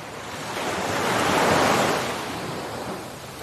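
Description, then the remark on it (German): A single foaming sea wave rolls in and washes up the beach, swelling to a broad hiss of foam before slowly receding, with steady surf noise and no voices. “Am Wasser angekommen, während deine Füße von einer schäumenden Welle umspült.”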